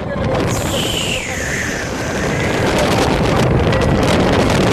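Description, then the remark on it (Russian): Strong gusting wind, with gusts reaching 120-140 km/h, roars steadily and loudly right against the microphone during a snow squall, chunks of snow flying, a dense rushing blast with a thin high whistle sliding downward early on, then surging harder toward the end. “Как утверждали специалисты, тогда скорость ветра достигала 120-140 км в час временами.”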